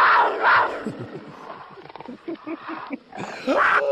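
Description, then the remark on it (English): A mountain lion roars in harsh, raspy bursts at the start and end, with a lower rumbling growl in between; loud, with no talking over it. “It started with the mountain lion.”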